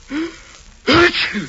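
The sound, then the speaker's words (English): A single loud sneeze: a short drawn-in breath, then a sharp explosive burst trailing into a brief, breathy tail. No speech. “Gesundheit.”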